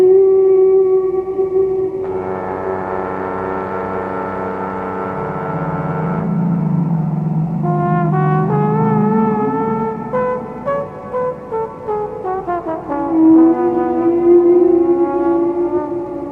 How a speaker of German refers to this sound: Und in anderen Regionen ist es oft ein anderes Lied. Aber es kann passieren, dass andere Wale das nachsingen. Und dann hat man ein paar Jahre später dort auch dieses andere Lied, was es vorher bei den Buckelwalen einer ganz anderen Region gab.